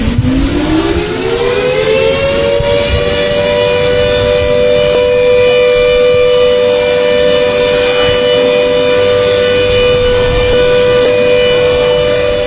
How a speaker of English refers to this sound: At exactly 2:15 p.m., the very moment the Commander-in-Chief of the Ghana Armed Forces, late President Professor John Evans Atta Mills, breath ceased, a siren was sounded.